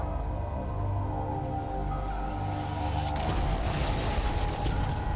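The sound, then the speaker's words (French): A low, steady rumble gives way to a sudden, powerful bomb blast at an FBI office, on Halloween eve at 7:45 pm, bursting into a loud, sustained roar of crackling debris, heavy, with no voices. “Une puissante explosion secoua le bureau du FBI.”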